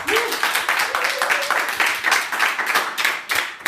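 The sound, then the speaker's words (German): Brief applause from a handful of audience members at the Contentix event in Berlin, dense overlapping hand claps at a steady level for a few seconds, with a faint voice or whistle briefly audible at the start. “Vor mir sitzen eine Handvoll sehr interessierte, motivierte Menschen, die sich mit einem kurzen Applaus mal kurz zeigen dürfen.”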